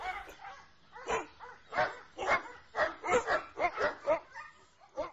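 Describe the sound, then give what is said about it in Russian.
Dogs tracking escaped men bark in a rapid, uneven string of about a dozen sharp yaps and woofs, growing slightly louder and closer toward the end, with no voices. “Лай собак становился все ближе.”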